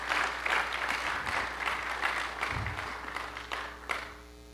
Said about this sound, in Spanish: Denle un aplauso al Señor, ¿verdad?